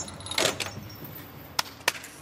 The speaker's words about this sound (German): Michaelis Saxamanoglou sperrt die Tür seines Speichers zu.